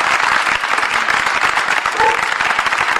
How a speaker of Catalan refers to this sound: Doncs aplaudiment de la plaça de l'Església en record, i a més emocionat, de l'Artur Blasco per Lluís Puig, al qual ens sumem.